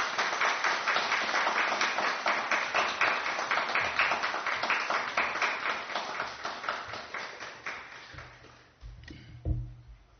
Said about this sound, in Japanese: では皆様拍手を持って先生をお迎えしたいと思います。よろしくお願いします。